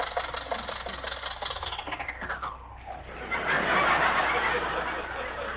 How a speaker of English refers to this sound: What's the matter, Rochester? The red light's against us. Well, you don't have to shut off the engine to stop. I do until you get brakes.